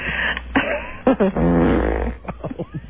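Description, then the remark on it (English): A run of buzzy farts: a few short pops, then a long sputtering blast lasting most of a second, and finally a quick series of smaller toots trailing off. “You have a lot of gas today, huh?”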